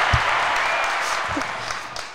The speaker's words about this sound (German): Dafür gibt es einmal einen großen Applaus.